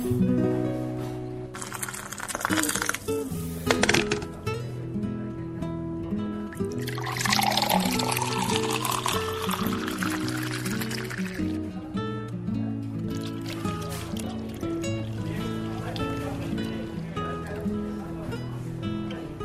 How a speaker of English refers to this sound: That is coffee pouring in the sounds of Hawaii, if anyone's wondering.